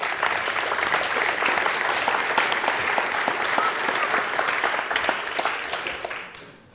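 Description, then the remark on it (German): A crowd applauds the speakers at the start of a talk about glass fibers, many hands clapping in a dense, even wash of sound that holds for about six seconds before fading out at the end. No voices are heard. “Einmal einen herzlichen Applaus für unsere Referenten.”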